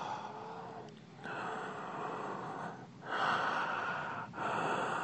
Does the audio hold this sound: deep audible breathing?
yes